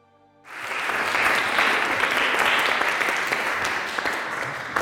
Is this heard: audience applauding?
yes